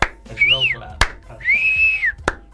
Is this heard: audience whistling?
yes